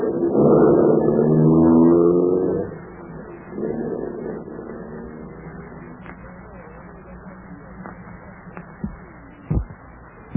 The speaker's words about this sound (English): A few yards from the house, I saw the black sedan. I got into the car, switched on the ignition, slammed the car into gear, and cut into the darkness ahead.